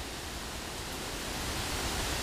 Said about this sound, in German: Du darfst mal hören, was um dich herum geschieht. Was hörst du alles? Ich höre hier den Wind.